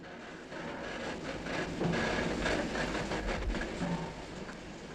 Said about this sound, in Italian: Dove va questo treno? A est. È l'unica certezza.